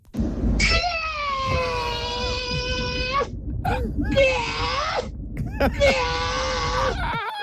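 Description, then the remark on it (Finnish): A person imitates a hawk's cry in a Finnish rap animal karaoke segment, with three long, high, strained screeching calls, each wavering and bending in pitch, separated by short pauses, loud against a low rumbling background. “Suomi-räpin eläinkaraokeessa siis haukkaa esitetään.”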